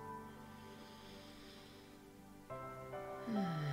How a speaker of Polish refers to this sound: Możecie nawet właśnie, tak jak ja, troszkę zwokalizować ten wydech i ostatni wdech i wydech.